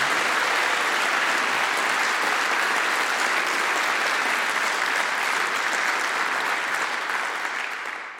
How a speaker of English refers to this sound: We're going to send you a prize, and what's more, I will unleash upon you this violent round of applause.